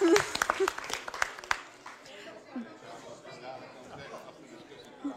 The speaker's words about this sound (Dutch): Hartstikke goed. Applaus voor Sterren. En applaus voor iedereen. Voor het geweldige dansen.